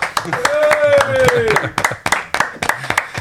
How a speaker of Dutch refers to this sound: Applaus, dames en heren. Applaus.